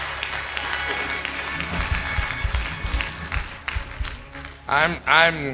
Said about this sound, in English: Come on and put those hands together and give the Lord a great big hand clap of praise.